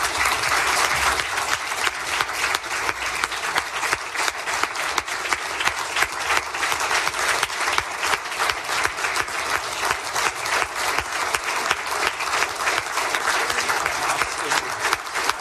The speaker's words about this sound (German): Wenn Sie diesem Antrag zustimmen, dann bitte ich Sie, sich mit einem deutlichen Applaus von Ihren Plätzen zu erheben.